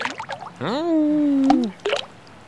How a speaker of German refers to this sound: Da sind die Steine, die ins Wasser fallen.